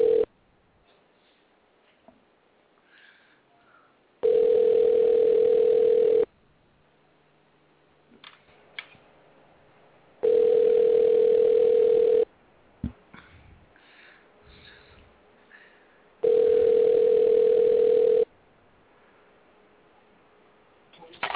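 A phone line ringing as a call is placed live on air: three steady, mid-pitched ring tones, each about two seconds long and evenly spaced, with quiet stretches of faint line noise and small clicks in between.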